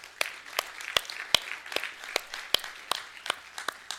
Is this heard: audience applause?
yes